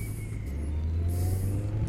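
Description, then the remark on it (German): A motorcycle engine runs steadily, a deep continuous rumble with rushing wind noise over it, heard by a passenger riding behind the driver during the first meters of the ride. “Die ersten Meter vom Motorrad.”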